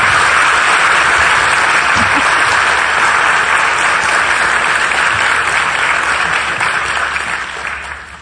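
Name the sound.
audience applause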